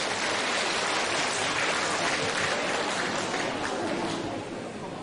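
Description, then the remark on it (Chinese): An audience applauds steadily for about five seconds to thank radio station head Lu Jinhong, a dense wash of many hands clapping that holds an even loudness before easing off slightly at the end. “让我们再次用掌声感谢大慈大悲的卢金红台长。”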